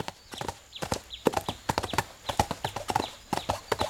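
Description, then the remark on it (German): Horses' hooves clip-clop steadily on a hard surface, a brisk irregular patter of sharp knocks from more than one animal, clear with no talking. “Endlich geht's raus, auf den Hof, zu den Pferden und dann auf die Wiese.”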